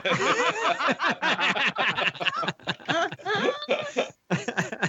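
An angry cat yowls loudly and almost without pause, its cries rising and falling in pitch in a string of harsh, wavering bursts separated by brief breaks.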